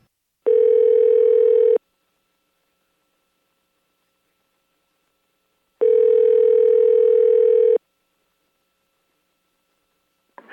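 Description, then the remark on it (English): A telephone line tone, heard before calling someone back, sounds in two long, steady, droning bursts separated by several seconds of silence. It is loud, with no voices. “Call her back.”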